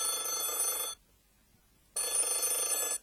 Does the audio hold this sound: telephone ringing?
yes